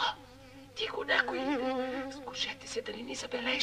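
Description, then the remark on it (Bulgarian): A steady buzzing of bees hums beneath a voice whispering urgently, the insect drone continuing faintly throughout the short scene. “Слушите си чу врамчене на пчели.”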